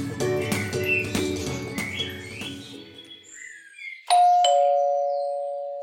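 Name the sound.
doorbell ringing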